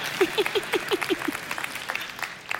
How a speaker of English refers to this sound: Yeah, that was a great golf clap. Good job.